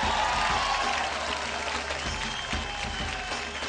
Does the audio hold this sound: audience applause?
yes